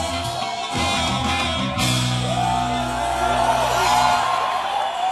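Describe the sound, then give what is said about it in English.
A large, young crowd cheers and whoops as a singer plays at the Acacia Jazz Festival in Addis in February 2014, a loud, continuous roar of shouts and yells that holds steady for about five seconds, with a low sustained tone beneath it. “This is … playing to an ecstatic young crowd at the Acacia Jazz Festival in Addis in February 2014.”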